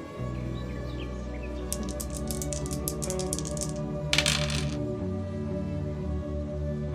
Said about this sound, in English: That's 2 sixes on the dice. So that is a 14.